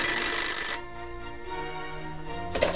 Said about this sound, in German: Plötzlich riss ihn das Klingeln des Telefons aus seinen düsteren Gedanken.